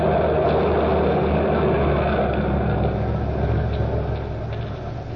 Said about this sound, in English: These drivers. It's that truck. Wants to get to the street.